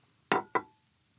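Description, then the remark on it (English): Two bright glass clinks about a quarter second apart, the second leaving a thin ringing tone that fades quickly; no voices, just the toast. “Cheers. Cheers, bro.”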